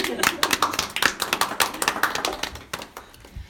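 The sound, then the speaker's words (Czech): An audience at a literary panel discussion applauds the introduced guests with a dense, steady patter of many hands clapping that thins out and tapers off toward the end. “Potlesk.”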